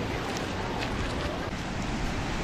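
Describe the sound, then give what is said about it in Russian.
A steady wash of ocean surf fills the whole stretch, constant and fairly loud, with a windy, hissing texture and no distinct individual wave breaks standing out. “И океан, и красивые дома, и живописная улица.”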